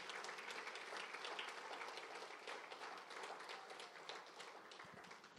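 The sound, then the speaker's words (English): An audience applauds Christ steadily, a dense wash of many hands clapping at once, sustained and fairly loud for the whole stretch without a break or any talking. “Al fin, dele un fuerte aplauso a Cristo.”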